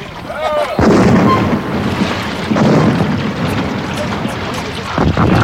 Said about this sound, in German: Ich gebe Angriffssignal. Feuer! Feuer aus allen Kanonen!